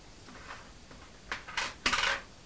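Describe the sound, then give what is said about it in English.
British coins, pence and pound coins, being sorted by value and set down, with faint clinks at first and then a few louder metallic clatters in quick succession toward the end. No one speaks. “Right, are those the pound coins? Look, there's another.”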